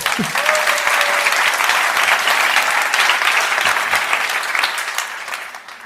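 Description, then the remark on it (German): Sustained applause from a large audience at the Embrace Festival, a dense wash of clapping that stays loud throughout and eases slightly toward the end, with a brief tone near the start. “Erstmal nochmal ein Applaus”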